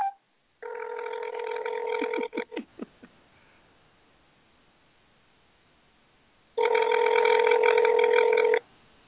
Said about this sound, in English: And I'm just going to dial it and put it on speakerphone.